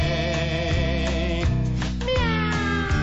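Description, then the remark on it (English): Drawn-out, sliding meow sounds, likely a singing voice imitating a cat, rise over steady, dense musical accompaniment, loud throughout. “Meow.”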